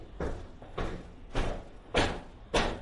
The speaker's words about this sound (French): Il y a un problème? J'ouvre la porte.